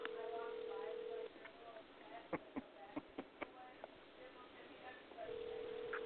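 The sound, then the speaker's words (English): A phone ringback tone of an outgoing phone call being dialed, over a thin, narrow-band line: a steady mid-pitched buzzing tone, then about four seconds of quiet with a few sharp clicks and faint murmur, then the tone again. “It's the actual ring of the phone call that I'm making.”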